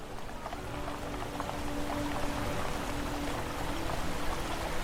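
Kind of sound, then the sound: nature, fountain water splashing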